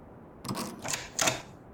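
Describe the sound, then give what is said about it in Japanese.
A key rattles and turns in the door lock of a girl's room, giving three short metallic clicks and scrapes spaced about half a second apart, with no voices. “今、鍵開けますので。”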